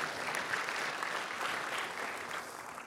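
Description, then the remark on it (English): A church audience applauds families dedicating their children, a dense wash of many hands clapping at an even, fairly loud level throughout, with no talking over it. “Will you give them a warm round of applause?”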